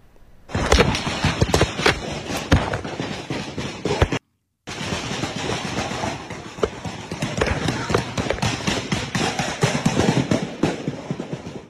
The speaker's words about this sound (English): You can hear their footsteps as they try to find cover.